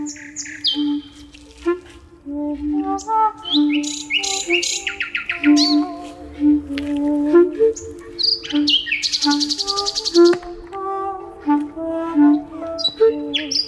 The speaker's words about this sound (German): Also man hört es, sie spielen und singen tatsächlich mit Nachtigallen, aber wahrscheinlich vorher gefragt und abgestimmt, oder?